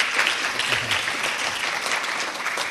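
A crowd applauds steadily for a few seconds, a dense, even wash of many hands clapping at a fairly loud level with no voices standing out.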